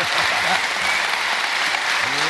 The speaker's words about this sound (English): Ladies and gentlemen, please give a massive round of applause to the amazing John Coleshaw.